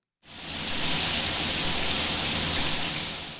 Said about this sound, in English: So, what's that sound? A hot shower. A hot shower.